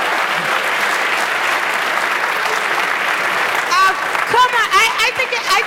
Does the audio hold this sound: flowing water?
no